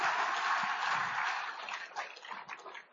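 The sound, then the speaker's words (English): An audience at a church service claps its hands at the preacher's call, starting as a dense, steady wash of applause and thinning out toward the end into more separate, scattered claps. No one speaks over it. “Clap your hands.”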